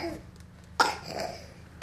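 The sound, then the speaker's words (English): A harsh cough bursts out, trailing off into a raspy breath, and a second sharp cough follows about a second later. No one speaks. “I can play that cough”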